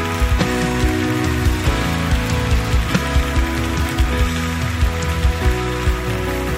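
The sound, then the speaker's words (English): A crowd at Elevation Church claps along during worship over loud, steady music with strong low notes and a regular beat, the clapping forming a dense, continuous patter without any voices. “Let's get those hands out of those pockets and start clapping like you're clapping the devil's head.”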